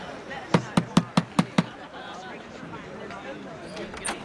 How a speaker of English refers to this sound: Bang on that door there. The pot bank? It's a property I own. The tenant is doing me a favour. Go on, the door won't open itself.